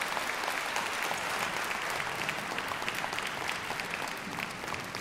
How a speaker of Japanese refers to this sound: 今週合唱団ウィングの皆さんでした。皆さんどうもありがとうございました。どうぞ拍手を持ってお送りくださいますように。